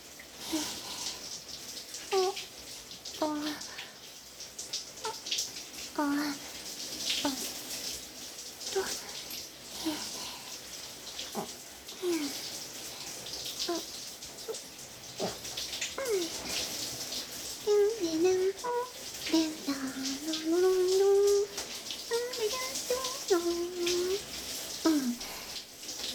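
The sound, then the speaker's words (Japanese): A shower sprays steadily as water rinses conditioner out of hair, a continuous hissing wash with shifting splashes, while a soft voice speaks intermittently over it. “リンスもしっかり流れて全部終わったよ。”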